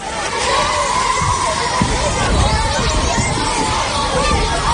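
Children playing at the midday recess between classes in a public school playground in the Valencian Community, Spain: a steady, loud wash of overlapping young voices, shouts and chatter blending into a continuous bright babble with occasional sharper cries.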